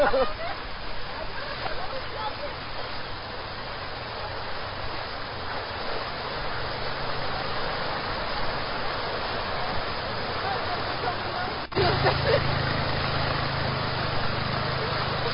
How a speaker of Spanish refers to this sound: Escuchemos, miremos. Ahí está, me oigo. ¡Mira, llueve!